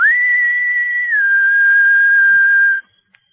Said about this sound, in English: Looking up, he whistled softly.